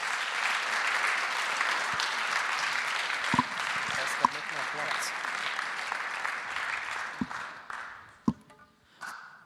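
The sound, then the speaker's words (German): Sustained audience applause, a dense wash of many hands clapping at steady loudness, with a few sharper claps standing out before it thins and tapers off near the end. “Herzlichen Applaus euch.”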